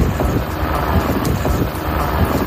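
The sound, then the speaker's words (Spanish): A wildfire in Las Hurdes, Extremadura, Spain, started in Ladrillar and advancing uncontrolled into Salamanca province, roars with a steady, dense rushing noise like strong wind, with faint scattered crackles and pops throughout. No voices are heard. “Es el sonido del fuego que nos llega también desde otra zona de Extremadura, desde Las Hurdes, declarado en Ladrillar, un incendio que avanza también sin control por la provincia de Salamanca.”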